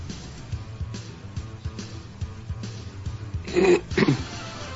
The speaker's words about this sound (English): He said, clearing his throat.